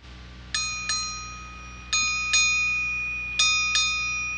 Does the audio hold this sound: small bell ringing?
yes